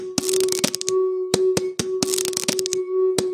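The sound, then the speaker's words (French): Sharp, crisp clicks in irregular bursts imitating a camera shutter release, made with household objects as part of a composed piece, over a steady, ringing mid-pitched hum. “Le déclencheur d'un appareil photo.”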